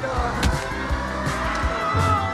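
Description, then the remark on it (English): A sports car engine roars while tires squeal in a sustained, high-pitched screech as the car swerves sharply at speed to avoid a man, with no talking. “the sports car swerves to avoid him.”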